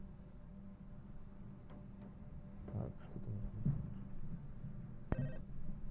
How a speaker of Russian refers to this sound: Радиослушатели, у нас поступил первый телефонный звонок. Говорите вы в прямом эфире.